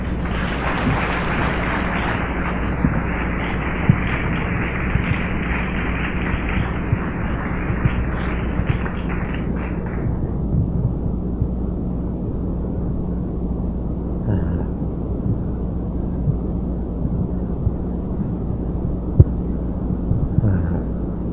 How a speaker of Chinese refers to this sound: 好，那我们现在就热烈掌声欢迎子敏先生。